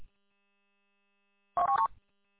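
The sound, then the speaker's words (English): A short burst of telephone keypad dialing tones as a phone call is made, a quick cluster of electronic beeps lasting under half a second, clear against an otherwise quiet background. “let me make a phone call real quick, and then I'll give you a call when I'm turning in your street.”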